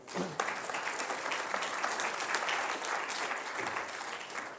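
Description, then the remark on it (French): Sustained audience applause welcoming Sophie Béjean, former president of the Université de Bourgogne, at a day on teaching innovation in higher education; a dense, steady patter of many hands clapping at once, loud, with no voices standing out. “Je vous demande d'applaudir et d'accueillir Sophie Béjean.”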